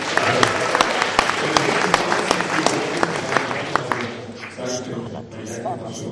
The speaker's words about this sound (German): Vielen Dank. Ein Applaus für diesen guten Applaus.